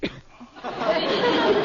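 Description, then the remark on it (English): A sneeze: a quick catch of breath, then a loud, breathy, spluttering burst that trails on for about a second with a giggly, rough edge. “Bless you.”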